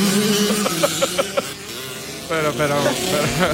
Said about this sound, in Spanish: Pero, ¿esas motos son en directo o no? Esto no es directo.